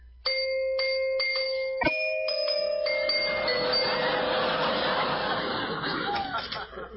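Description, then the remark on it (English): A doorbell at the Friendly Undertaker chimes with a few quick, ringing tones, then a longer sustained chime that fades under a busy wash of voices and laughter. “Where's the bell? Oh, here.”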